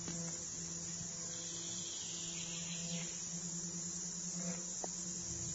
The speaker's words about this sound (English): Become aware of the concert of the grasshoppers.